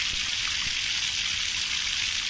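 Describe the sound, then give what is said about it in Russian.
A steady rush of water pours from a tap in an apartment building in Saransk, capital of Mordovia, opened in advance so the water warms up before a shower or bath. A constant bright hiss with no breaks, fairly loud, with no voices. “Для того, чтобы принять душ или искупаться в ванной, жителям многих многоквартирных домов столицы Мордовии приходится загодя открывать кран.”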